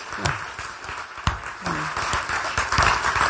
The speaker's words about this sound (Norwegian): Vi klapper det tilbake også.